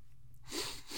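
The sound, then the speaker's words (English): After a moment of near silence with a low hum, a loud, hissing sneeze bursts out, followed by a quick sniffle as it trails off. No one speaks. “Ah, man, these sniffles will not leave me alone at all.”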